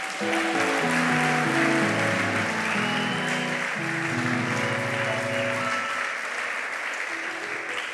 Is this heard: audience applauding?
yes